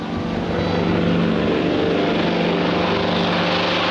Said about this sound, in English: Plane to Lisbon.